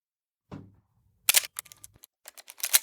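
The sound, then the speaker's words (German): A mechanical camera shutter fires with a sharp click, followed by a rapid series of crisp ratcheting clicks as the film advance lever is wound, then more clicking bursts, no voices. “Das mechanische Klicken war wie Musik in Johns Ohren. Erneut zog er den Schnellspannhebel und schaute durch den Sucher.”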